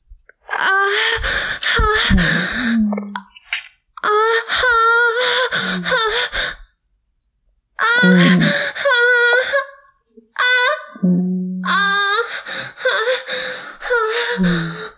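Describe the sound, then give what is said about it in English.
A woman's heavy, loud panting mixed with drawn-out voiced moans and gasps, coming in several bursts of a second or two separated by brief silent pauses, with no talking. “She's really panting.”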